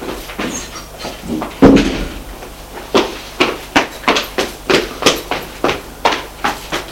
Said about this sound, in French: Elle entend la porte de son appartement se refermer.